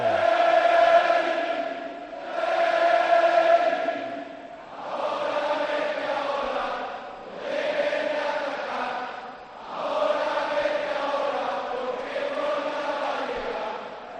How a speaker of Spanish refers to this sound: Ya suena una de las bandas sonoras del fútbol español. Grita a los aficionados del Betis su himno.